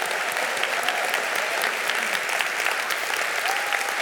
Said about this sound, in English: Moms building a business. Give these ladies a round of applause. That's hard. That's hard.